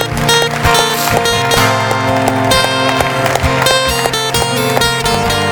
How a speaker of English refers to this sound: I want to give Him one more hand clap of praise today.